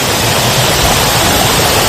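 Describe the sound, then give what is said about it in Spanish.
Heavy rain falling since the morning in the Mediterranean region, especially Catalonia, pours down in a dense, steady hiss that fills the whole two seconds at a constant loud level, with no voices or distinct drops standing out. “Es la lluvia que está cayendo con fuerza desde esta mañana en el Mediterráneo, sobre todo en Cataluña.”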